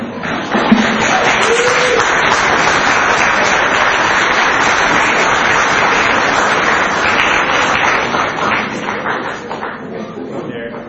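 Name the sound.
audience applause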